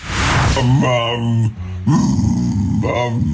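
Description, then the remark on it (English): A dog makes drawn-out, howling vocalizations that bend into a speech-like "mama" sound, repeated in a couple of loud bursts with a brief pause between them. “Mama. A dog communicating. Mama.”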